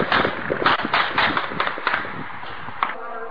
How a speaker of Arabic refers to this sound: وبرغم انتشار الشبيحة خرجت المظاهرات في معظم أحيائها كما في كفر تلسة والمزة والميدان وجوبر والمهاجرين ورقم الدين وغيرها. وكالعادة أطلقت نيران الشبيحة وسقط الشهداء مدرجين بدمائهم.